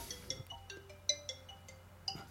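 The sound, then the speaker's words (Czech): A telephone rings for an incoming call with an electronic melody of short, bright tonal beeps in quick succession, fairly quiet and heard alone with no voices. “A máme tady telefon.”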